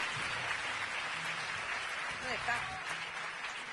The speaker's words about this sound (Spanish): Esta noche creo que está entre nosotros un señor, que es un artistazo y un poeta, como muy pocos, que se llama Pablo Guerrero. Un aplauso bien fuerte para él.